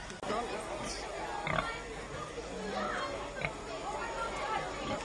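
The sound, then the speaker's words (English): Saddleback pigs resting in the heat grunt and oink softly, short snuffling calls scattered over a steady noisy background with faint murmuring voices. “Possibly I let sleeping pigs lie, but never mind.”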